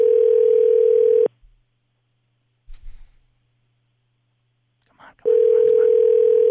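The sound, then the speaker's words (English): A telephone ringback tone heard through the receiver while calling a toll-free vanity number: a steady, buzzing two-second ring, a long silent pause with a couple of faint muffled noises, then the ring starts again, loud. “It's ringing.”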